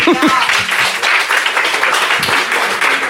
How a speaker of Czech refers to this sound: To je na potlesk, ne?